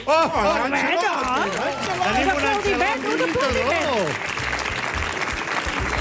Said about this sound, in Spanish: Un aplaudiment.